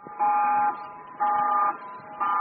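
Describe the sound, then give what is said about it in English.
A tsunami warning siren in New Zealand, urging people near the coast to get to high ground, sounds in three loud, steady bursts with short gaps between them, a harsh mid-pitched electronic tone with a buzzy, horn-like edge. “You're hearing tsunami sirens, urgent warnings telling people who live anywhere near the coast to get to high ground.”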